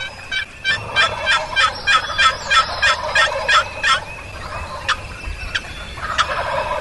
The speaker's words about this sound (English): Turkeys are now gobbling all across the ridge.